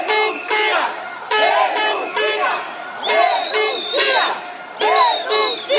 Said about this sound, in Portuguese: Palavras de ordem davam o tom do protesto.